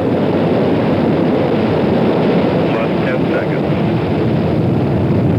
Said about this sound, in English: T-minus 10, 9, 8, 7, 6, 5, 4, 3, 2, 1, 0. Ignition. Engine to start. We have a liftoff at 30 minutes and about 5 seconds after the hour.